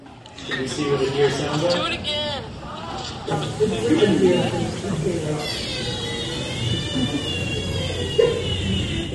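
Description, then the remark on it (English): A deer calls in a series of high, wavering, nasal bleats that rise and fall in pitch, repeating several times over a steady bed of murmuring voices and background noise. “Can you see what the deer sounds like? Do it again.”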